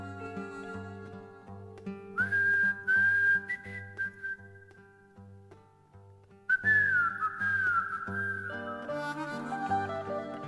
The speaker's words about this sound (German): sie hatten als geheimes Erkennungszeichen einen Pfiff. Den Refrain eines alten Soldatenliedes, das damals gebrüllt wurde und heute immer noch gebrüllt wird, aber die letzten Töne, die wurden quer gepfiffen.